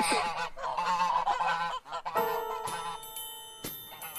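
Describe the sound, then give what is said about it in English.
Geese kept as watchdogs honk loudly in a rapid, overlapping string of harsh, nasal calls for about two seconds, followed by a sustained, bright ringing tone that holds steady to the end. “But I hate geese. By watchdogs, if somebody's coming, they just make tons of noise.”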